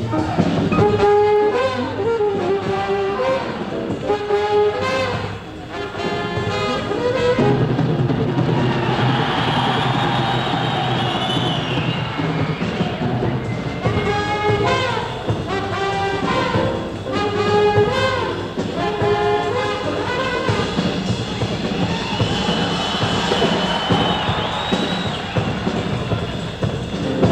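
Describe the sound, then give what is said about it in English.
Live jazz at a Jazz at the Philharmonic concert at Carnegie Hall, February 11, 1949, with a drummer whipping up the crowd: driving drums under loud, repeated brass riffs, the full band playing steadily and energetically for the whole stretch, with no talking. “Drummer … whipping up the crowd at Carnegie Hall, February 11, 1949.”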